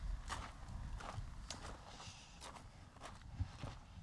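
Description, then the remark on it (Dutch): Steady footsteps crunch along an outdoor path through a water storage area among polders and meadows, at an even walking pace, about two steps per second, over a low rumble of wind or background noise. “Ja, het is wel leuk om te vertellen voorheen, dit pad waar we nu overheen lopen.”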